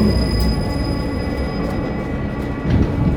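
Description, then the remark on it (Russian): A low-floor tram with a ramp, route 28 toward Sokol metro station, stands at a stop with doors closed, rumbling steadily, its motors giving off a constant electrical hum with faint squeaks and clunks, no voices present. “Трамвай низкопольный с аппарелью 28 в направлении метро «Сокол».”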